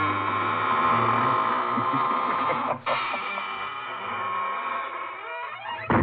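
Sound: squeaking door closing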